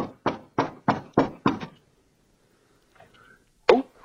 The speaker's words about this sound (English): The other one was still in bed, so he went over to the friend's house, knocked on the door. Paul? He's looking for Paul Milgram, who won the prize. This is Robert Wilson knocking, middle of the night, Stockholm.